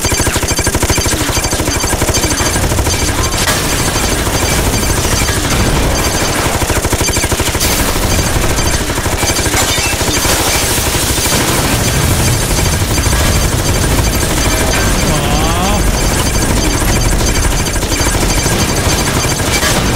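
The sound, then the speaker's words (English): Sustained, loud rapid-fire machine gun bursts from a video game as the player quickly sprays gunfire forward and back, dense and continuous over a busy electronic soundtrack with no voices. “You can quickly spray your gunfire forward and back.”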